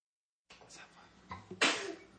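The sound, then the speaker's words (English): A sharp, loud sneeze bursts out after a brief inhaling buildup, standing alone with no talking around it. “Bless you. Bless you.”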